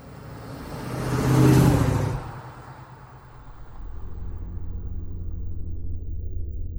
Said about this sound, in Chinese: 奔驰600型汽车在黑暗中向东面的张家村方向奔驰，那里环境优美，住着一些退了休的大人物。